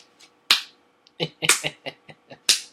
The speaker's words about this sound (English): Traditional slow clap.